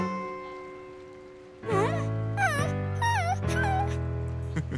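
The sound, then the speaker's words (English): A dog named Charlie makes a string of drawn-out, wavering whines and yowls, about four bursts in quick succession with short breaks between, fairly loud against a quiet background. “That's my good dog.”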